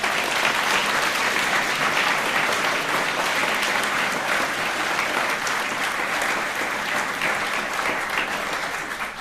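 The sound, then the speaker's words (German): A large audience claps steadily and loudly for several seconds for the kitchen crew, a dense, continuous wash of applause that tapers only slightly toward the end. “Also großen Applaus für die Küche bitte.”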